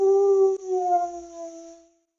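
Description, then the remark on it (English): A dog lets out a long, mournful howl, a sustained tone that wavers briefly, then slowly fades away over about two seconds, heard alone. “And because Jimmy was so gloomy, Jimmy's dog felt gloomy too.”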